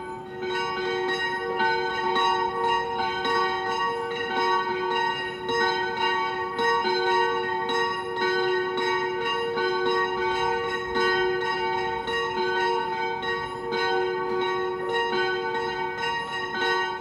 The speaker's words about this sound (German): Zu den Glocken der Kirche St. Johannes der Täufer in Kronstetten gibt es eine Sage. Sie stammt aus der Zeit, als Kronstetten noch ein Wallfahrtsort war und bekannt für den schönen Klang seiner Glocken.